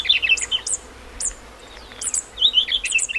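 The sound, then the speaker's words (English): A fairy wren calls with its family's password note in high, thin chirps and quick trilling notes, in two bright bursts separated by a short pause, over faint outdoor hiss. No one speaks. “wren chicks learn their mother's song and incorporate the password note into their begging calls”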